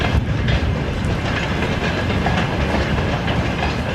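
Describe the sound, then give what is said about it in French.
A freight train leaving a port rolls steadily along the rails, a dense continuous rumble with faint rhythmic clatter of wheels, fairly loud throughout, with no voices. “Les trains de marchandises qui quittent le port ne fonctionnent plus à plein régime.”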